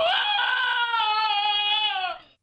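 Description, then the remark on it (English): Cody, a small terrier-looking dog, lets out one long, piercing scream that sounds almost human, holding a steady high pitch for about two seconds before tapering off. It is loud and alone. “This is Cody the dog screaming.”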